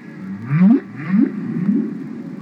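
A whale calls out in three low, rising moans, each swelling upward in pitch and fading, spaced evenly over a couple of seconds with a faint watery hiss underneath.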